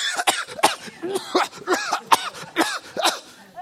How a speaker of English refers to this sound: I know, I gave up those cheap Cuban cigars. That's why I've been coughing so many times.